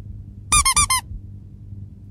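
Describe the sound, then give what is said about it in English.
A rubber duck squeaks four times in quick succession, high and harmonic, then falls silent before a fifth squeak starts right at the end over a low background hum. “Wird eine Quietscheente.”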